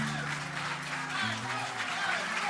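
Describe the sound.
An audience applauds steadily, a dense wash of many hands clapping at even strength for the whole moment, with a low tonal hum and faint voices underneath.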